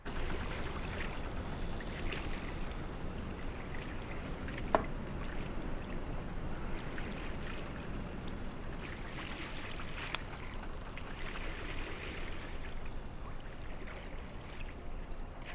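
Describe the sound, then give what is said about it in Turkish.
Steady ambience aboard a boat in very cold weather, with water lapping and sloshing against the hull over a constant low rumble, plus an occasional faint knock. No one speaks. “Birkaç gün daha teknedeyiz.”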